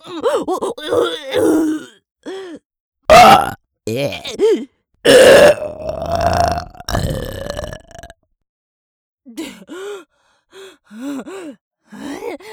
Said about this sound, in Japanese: あれ、さっきまであんなに苦しかったのに、ゲップこいたら平気になっちゃった。むしろ超気持ちいい。